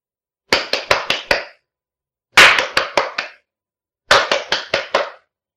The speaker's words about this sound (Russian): Это наше приветствие. Так мы вас приветствуем. Мы хлопаем вам и делаем в это время поклон.